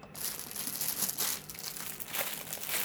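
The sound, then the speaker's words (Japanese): Plastic packaging crinkles and rustles continuously in a kitchen, a busy crackling texture with irregular bursts, as someone struggles to get it open. No one speaks. “ああ、開けられない。ハサミ、ハサミ、ハサミ。”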